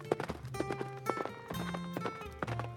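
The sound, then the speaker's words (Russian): Horse hooves clip-clop in a brisk, steady rhythm, each hoof strike sharp, over a soft sustained musical drone; no one speaks. “Оседлал он коня и пустился на поиски цветка.”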